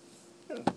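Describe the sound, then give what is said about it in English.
A dog gives a short yawn: a brief squeaky whine rising and falling, then a quick soft snap as the jaws close. “That's a yawn.”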